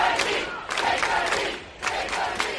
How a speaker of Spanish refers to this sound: Rodilla en tierra, gritaban los manifestantes a los miembros de la Guardia Nacional, que no se inmutaban.